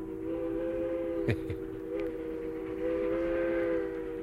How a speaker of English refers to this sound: But it was a train whistle much the same as that that caused some wearisome years for my mama and started a lifelong love affair with trains.